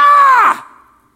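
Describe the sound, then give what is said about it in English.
A single loud, strained human scream of frustration bursts out for about half a second, then cuts off and trails away in a brief echoing tail, with no talking around it. “And then I'd just start screaming at him.”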